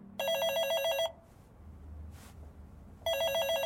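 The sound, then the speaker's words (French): A telephone rings twice, a bright, buzzing electronic trill with a pause between bursts, clear over a quiet room hum. “Bonjour, je suis bien au téléphone avec la Qingyang Law Firms.”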